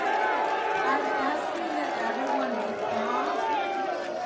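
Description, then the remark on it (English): A crowd boos, many voices blending into a steady, loud roar of drawn-out, wavering tones that holds for the whole stretch without a break. “So here you have the Muslims standing up, booing, apparently.”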